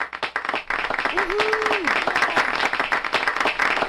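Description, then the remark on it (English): Steady crowd applause likened to the applause for a putt at a golf tournament, a dense patter of many hands clapping at an even level throughout, with a brief tonal whoop or whistle rising above it near the middle. “described that applause as something likened to the applause of a putt at a golf tournament.”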